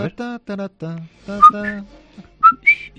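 Someone whistles a short tune of a few clear, sustained notes that leap between pitches, after a few rhythmic voiced syllables; no other sounds.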